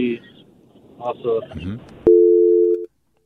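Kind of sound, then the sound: signal or alarm, telephone busy signal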